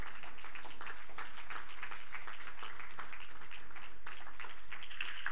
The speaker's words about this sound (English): And if everybody stand and give a round of applause, give the Lord a round of applause.